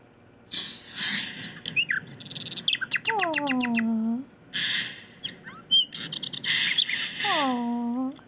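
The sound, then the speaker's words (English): Birds chirp and trill repeatedly over a steady hiss of falling rain in a free rain-sounds track played from a bedside stand, with quick rapid-fire notes and drawn-out downward-sliding calls recurring through the scene, clear. “The birds. That is so sweet.”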